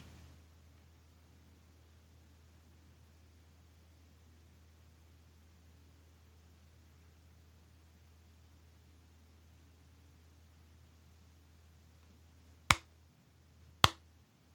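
Two sharp, slow claps about a second apart break a long stretch of quiet, low steady hum near the end. No one speaks.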